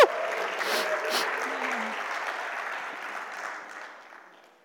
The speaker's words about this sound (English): How about a little cheering them on? A little bit more cheering. Come on, yeah, yeah. Woo, woo.